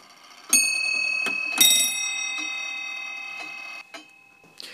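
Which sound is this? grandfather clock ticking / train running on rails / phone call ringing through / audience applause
grandfather clock ticking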